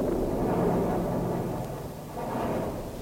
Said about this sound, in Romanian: Mi se pare că vine furtuna.